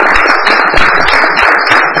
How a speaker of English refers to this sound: And of course, can we have a special round of applause for our new councillor?